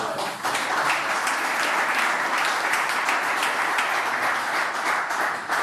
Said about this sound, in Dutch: Applaus voor een ondernemer gebeurt niet elke week in Buitenhof, moet ik zeggen.